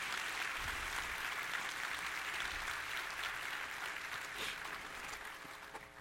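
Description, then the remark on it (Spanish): Sustained audience applause thanking everyone who served over the weekend, from the tables outside to those who helped with the children and transportation, a dense wash of many hands clapping at steady volume for several seconds, tapering slightly at the end with no voices standing out. “Quisiera darle un aplauso a todos.”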